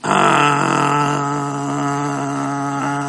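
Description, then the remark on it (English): A voice imitates the engine of a little toy car that a young boy plays with. It holds one steady, buzzing, low-pitched drone for about three seconds, starting loud and easing slightly, with no words spoken. “All of a sudden, the kid takes the car. You give it to him, and he goes.”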